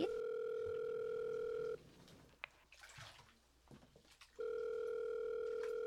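A phone ringback tone of a call placed via Siri sounds twice, each a long, steady electronic buzz, separated by a pause of a couple of seconds filled with faint trickling, splashing water noise.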